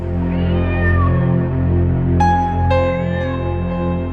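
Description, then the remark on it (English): A cat, Dick Whittington's cat from the story Dick Whittington and his cat, meows several times, a drawn-out wavering cry followed by two sharper, shorter meows, all set over a steady, droning musical background with no talking. “Dick Whittington and his cat.”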